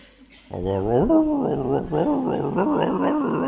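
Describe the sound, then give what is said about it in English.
A man imitates monkey chatter, talking to a monkey in Vrindavan: a loud run of warbling, pitch-bending hoots and squeals that rise and fall in quick succession for about three seconds. “Then suddenly he starts talking in monkey talk.”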